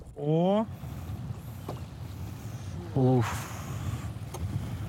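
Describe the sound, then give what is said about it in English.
A small sailboat sails through water in good sailing wind, steered by its tiller, with a steady rushing wash of wind and water throughout. Two short, loud voiced sounds stand out briefly. “So is this good weather for sailing?”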